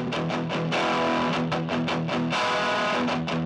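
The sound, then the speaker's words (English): Gritty, distorted electric guitar riff recorded through a ProCo Rat distortion pedal into a tiny 5-watt Vox amp plays a loud run of chords, with choppy rhythmic strums broken by a couple of longer ringing ones. It sounds raw, and nobody talks. “I recorded through a Proko Rat, the best distortion pedal, into... I just have this tiny Vox amp.”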